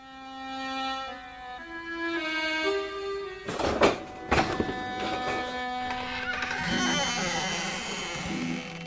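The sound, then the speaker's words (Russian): After a sustained rising tone sequence, a jailer's keys jangle metallically, followed by a heavy iron prison door grinding and creaking wide open, moderately loud. “Звеня ключами, тюремщик открыл тяжелую железную дверь и настежь отворил ее.”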